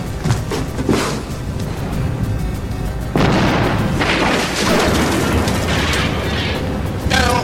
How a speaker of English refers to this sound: These explosions, where are they coming from? I don't know. Underground drilling. Why explosions? High-impact phase bombs.